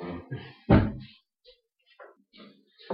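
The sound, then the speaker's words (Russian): A door shuts with one heavy, low thud, surrounded by softer scraping and shuffling noises and brief faint sounds in the quiet afterward. “Окей, я сейчас пойду прогуляюсь, дверь закрою.”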